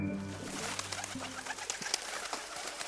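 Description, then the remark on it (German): Pigeons coo softly with low, throaty warbling calls, layered with fainter chirps and scattered rustling in the background; no one speaks. “So hat sich die Taube, vermutet man, freiwillig dem Menschen angeschlossen.”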